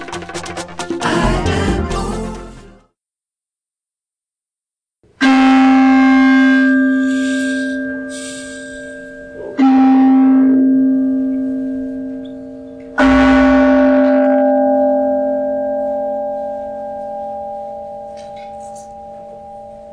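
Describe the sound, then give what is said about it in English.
A deep, resonant bell is struck three times at spaced intervals at a Sunday service in Huntsville, Alabama, each strike ringing out loudly and humming on in a long, shimmering decay, following a brief burst of clattering noise and a moment of silence. “The sound of the bell reverberate throughout this universe, restoring us to sanity, inviting us into an abiding peace, and taking us into the breath”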